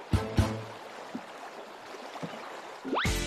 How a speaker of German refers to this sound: Der Fluss nimmt hier richtig Fahrt auf und führt auch viel mehr Wasser.